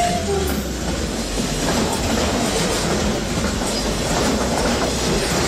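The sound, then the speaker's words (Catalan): Freight trains, among the first to run through the reopened Rubí tunnel in Catalonia, rumble steadily past, wagons clattering over the rails with a dense, continuous roar and faint metallic clicks, no voices present. “Sonaven els primers trens de mercaderies que hi han pogut circular.”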